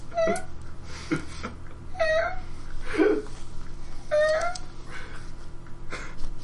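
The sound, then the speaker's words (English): An adult female cat meows four times in short, thin, whiny calls spaced about a second apart, over a steady low background hum. “This is the sound my cat makes, and she's an adult.”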